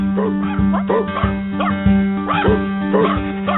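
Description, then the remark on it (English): A dog barks repeatedly in short, sharp bursts, five or six barks in an uneven rhythm, loud over a steady low droning hum. “Here comes Caesar, the dog whisperer.”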